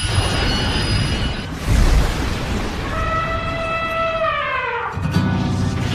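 A train rumbles along its rails, wheels letting out loud, high metallic squeals that bend and slide in pitch before a heavy low rumble takes over. No one speaks.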